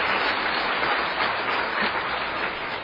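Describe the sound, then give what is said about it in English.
A crowd breaks into steady applause, a dense, continuous patter of many hands clapping at an even loudness for a few seconds, with no voices standing out. “You can applaud that.”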